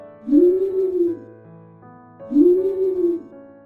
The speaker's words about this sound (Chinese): 声音浑厚有质感的猫头鹰奶奶